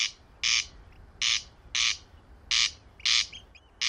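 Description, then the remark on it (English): A corncrake's harsh, rasping crex call repeats in steady paired bursts, six loud dry rattles spaced evenly against a low background hum, with no voices. “Their Latin name of Crex Crex lends itself to the onomatopoeic crex calls they utter with vigour from ground cover.”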